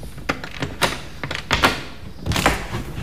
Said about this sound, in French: Bon, j'entre, je vais fermer la porte. Oui. Alors voilà, on entre.